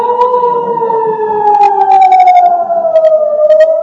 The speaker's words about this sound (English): In parts of Israel, the sound of sirens has become a daily occurrence, the warning sounds of incoming Hamas rockets striking ever deeper into Israel, including Be'er Sheva in the Negev, over 40 kilometers southeast of Gaza.